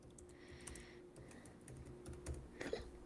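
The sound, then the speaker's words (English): Soft, irregular clatter of typing on a computer keyboard, a quick run of keystrokes with short pauses, quiet over a low steady background hum. “Why are you not typing for me?”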